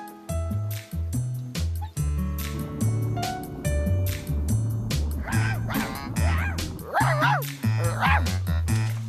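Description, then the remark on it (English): A dog barks and yips several times in quick bursts over a bouncy, steady musical backing, the barks prominent in the second half. “There's a dog.”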